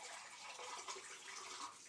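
Tap water runs steadily through a filter into a pitcher kettle, a continuous hiss and gurgle with faint rising tones as it fills, no one speaking.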